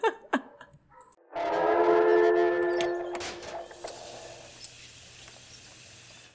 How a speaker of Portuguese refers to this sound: Temos um gato aqui meando do meu lado, peraí.